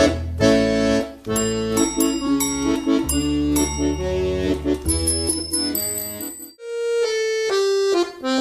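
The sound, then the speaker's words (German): Bright bicycle bell rings chime repeatedly over a busy, bouncy musical backing, with a quick run of high metallic dings midway before a sustained tone closes it out. “Steht uns mal jemand quer im Weg, ja, dann klingel ich ihn einfach weg.”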